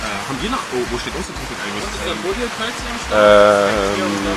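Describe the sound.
Steady, dense rain hisses across the whole recording while people talk underneath it, and near the end a louder, sustained tonal voice or sound rises above the downpour.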